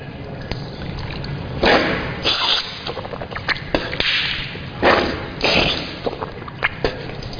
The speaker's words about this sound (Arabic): تمضمضت يعني الماء لما أخذته بيدي شيء دخل إلى الفم وشيء دخل إلى الأنف، ثم نثرت بيدي اليسرى. هكذا السنة أن المضمضة الماء نأخذه باليمنى وننثر في اليسرى،